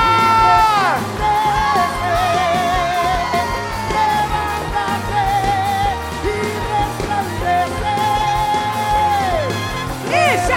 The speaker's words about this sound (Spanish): ¡Dale un grito de vida!